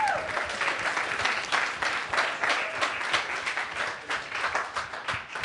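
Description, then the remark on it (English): The audience at the end of a 24-hour Windows 8 event applauds steadily, a dense wash of many hands clapping at once that holds at an even, fairly loud level from start to finish. “So give yourselves a round of applause.”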